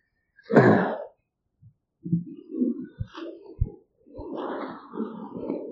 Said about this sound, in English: Everybody's coughing and sneezing.